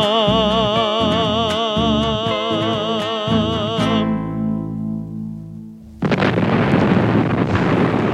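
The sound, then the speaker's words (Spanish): Tonal, wavering music plays and fades into a lingering hum, then a sudden loud explosion bursts in near the end, followed by a roaring, rumbling noise that keeps going. “Y ahí fue que vino la explosión, hermano.”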